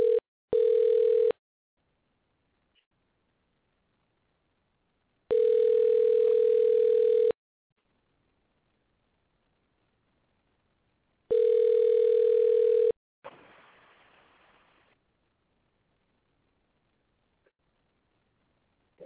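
A telephone ringback tone plays while a call is placed to a participant's phone: three steady, low-pitched buzzing rings, each about two seconds long with pauses between, followed by a short burst of crackly noise.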